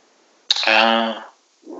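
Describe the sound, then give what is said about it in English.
A voice makes a mouth-made bomb sound, a sharp burst of breath that swells into a loud, rumbling vocal boom lasting nearly a second, followed by a brief softer sound. “But having gun sounds from your mouth is totally fine. More of a bomb sound.”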